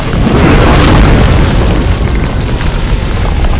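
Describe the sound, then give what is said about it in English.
Fire raining down and crashing around a city's perimeter makes a loud, continuous roar of booming explosions and crackling flames, dense low rumbling with sharp bursts layered throughout, steady in intensity with no voices. “It's raining fire and brimstone!”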